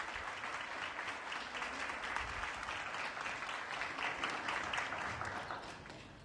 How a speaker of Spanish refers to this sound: Así que les brindamos un aplauso. Felicitaciones, chicos.